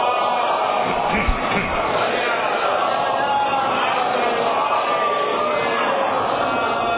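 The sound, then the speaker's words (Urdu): A large crowd loudly recites salawat together in one sustained burst of massed voices, a steady wall of sound lasting several seconds with no single speaker standing out. “ان سب کی بخشش اور درجات کی بلندی کے لیے باعوذ بلند صلوات.”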